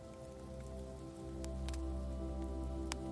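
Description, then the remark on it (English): Ocean waves wash softly onto a beach beside a bonfire at night, a steady low whoosh and hum with a few faint crackling ticks scattered through it. No voices are heard. “The sound of the ocean whooshes and hums in the background as the waves furl and unfurl across the beach.”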